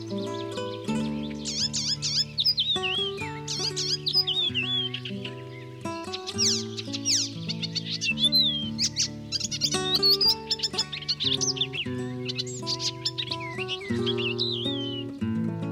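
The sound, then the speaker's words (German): An icterine warbler sings a fast, varied stream of high chirps, whistles and trills, continuous, over a steady background of sustained low musical tones. “Das war der Gelbspötter.”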